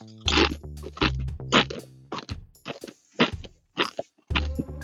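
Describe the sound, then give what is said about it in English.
Loud crunching of a Dorito tortilla chip: several crisp bites and chews in irregular bursts, mixed with low throaty mouth sounds between the crunches. “Can I munch on a Dorito? I'm gonna take one.”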